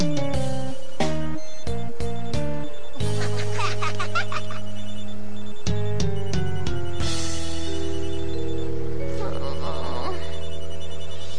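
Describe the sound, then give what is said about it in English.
A cell phone ringtone for an incoming call plays a bright, repeating electronic melody, loud, with a few quick notes breaking into a longer sustained tune; faint voices or laughter flicker underneath. “Hold on, I'm getting another call.”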